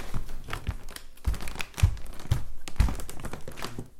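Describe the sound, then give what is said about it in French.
Wooden floorboards in a home creak and thump underfoot in a steady series of about six fairly loud steps, each with a short dry groan, with no voices. “Maintenant, le bruit du plancher.”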